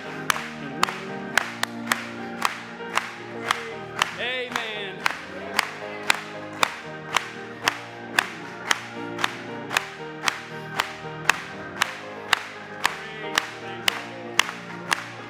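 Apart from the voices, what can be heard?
audience clapping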